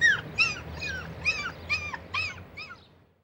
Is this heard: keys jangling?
no